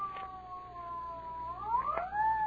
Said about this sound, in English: What's that, Daddy? Why, I think it's the ambulance.